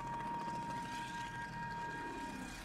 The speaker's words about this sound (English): There are planes overhead. Do you hear them? There were always so many.